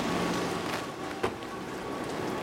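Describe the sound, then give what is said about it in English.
Light rain patters steadily and softly on a large umbrella overhead on a rainy day in Japan, a fine continuous hiss of drops with one slightly sharper tap partway through, and no voices. “So here we go, a little pitter-patter.”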